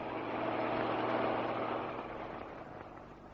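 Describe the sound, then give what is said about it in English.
A truck approaches, its engine rumbling with a steady, low droning hum and broad mechanical noise, swelling slightly before easing off a little. No one speaks. “Listen. It's another truck coming.”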